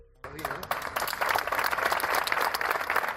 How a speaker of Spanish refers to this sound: Entre aplausos se despedía el subinspector de la Policía Nacional de Mérida